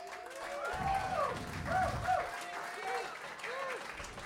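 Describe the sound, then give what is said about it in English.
A large audience claps steadily for several seconds in answer to how many have served in the armed forces. The dense applause holds at an even, moderately loud level with scattered voices and a few cheers mixed in. “How many people have served, by applause, how many people have served in our armed forces?”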